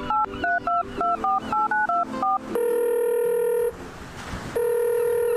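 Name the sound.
telephone dialing and ringing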